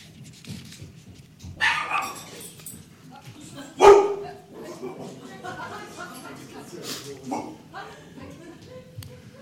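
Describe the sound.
Dogs bark in short bursts, one sharp loud bark near the middle standing out, over a background of people talking.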